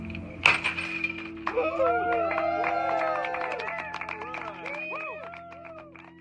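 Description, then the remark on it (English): A single sharp crash of a champagne bottle smashed by OceanGate's director of engineering against the hull of the Titan submersible, immediately followed by a crowd cheering and whooping over a steady background hum. “who lifted a bottle of champagne and smashed it against the hull.”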